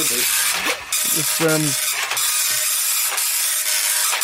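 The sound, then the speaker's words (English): A slow printer prints out a page, running steadily with a constant mechanical hiss and whir broken by brief clicks and shifting motor tones as the page feeds through, fairly loud. “Just printing it out now.”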